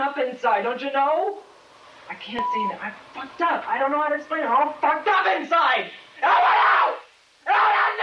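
A 22-year-old male student screams and wails in anguished, broken bursts while feigning a nervous breakdown, with harmonic cries rising and falling over about eight seconds, loud, separated by brief gasping pauses and rougher, noisy shrieks toward the end.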